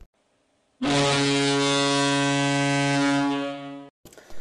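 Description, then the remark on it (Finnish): A loud, sustained buzzer blares for about three seconds with a harsh, steady tone rich in harmonics, then cuts off abruptly before a brief burst of noise. “Ja se on taas summerin aika, joten te tiedätte jo, että se on jakson päättämisen merkki.”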